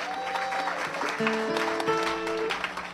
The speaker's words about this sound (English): Give him a nice round of applause.